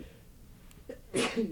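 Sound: sneeze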